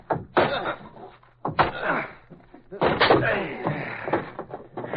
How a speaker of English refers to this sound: Hey, I hear something. Somebody's yelling for help. Come on. In that closet. Break the door.